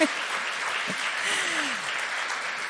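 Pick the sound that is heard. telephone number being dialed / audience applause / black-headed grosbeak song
audience applause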